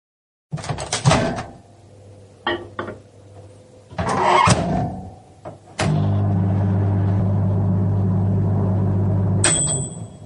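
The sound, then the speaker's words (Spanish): A home microwave oven's door clunks and buttons click, then the oven starts with a loud, steady low hum that drones for several seconds before a high-pitched beep sounds at the end. “Vamos a hacer la magia del podcast y vaya a oír cómo suena mi microondas.”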